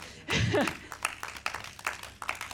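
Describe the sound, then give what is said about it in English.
An audience claps in a dense, steady patter of overlapping hand claps, opening with a brief vocal whoop and continuing at moderate volume for a couple of seconds. “Yeah, you can clap.”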